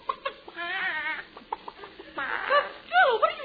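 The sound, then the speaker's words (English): A chicken named Betty, used for an egg shampoo, clucks in a string of short, uneven bursts, rising to a louder squawky cackle near the end, somewhat muffled with a thin, narrow tone. “Chicken.”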